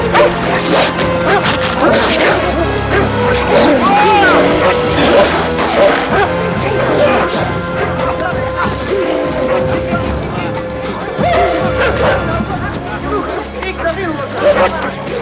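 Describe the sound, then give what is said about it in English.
Husky sled dogs bark and yip in a loud, chaotic scuffle on a snowy slope as they attack a man, with crashing, thudding impacts and the man shouting over the commotion throughout. “These dogs off of me! Fucking dogs, get off of me!”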